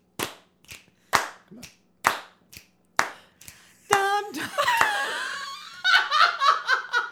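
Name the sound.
hand clapping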